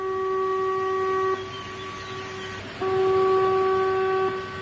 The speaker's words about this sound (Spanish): la tarde en localidades como Vilagarcía en Pontevedra, Arzúa en A Coruña, Xove en Lugo o Ribadavia en Ourense se testan las señales acústicas que avisan de un fallo estructural de un embalse. Erosión, sobrecarga, fallo humano, un sonido tal que así.